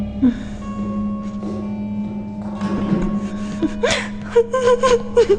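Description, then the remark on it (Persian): A person cries softly, with gasping breaths and whimpering sobs that rise into short broken wails toward the end, over a steady low hum. “چرا داری گریه میکنی؟”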